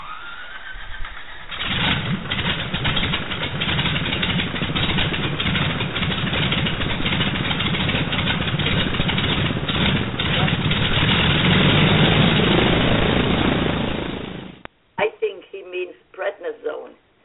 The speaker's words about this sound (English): Let's start the engine for our show tonight. Do we want a jet or do we want a prop? Oh, that Super Connie sound is good. Clear prop.